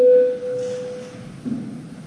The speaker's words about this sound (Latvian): Lūdzu zvanu. Balsosim par likuma projektu grozījumu prokuratūras likumā pirmajā lasījumā.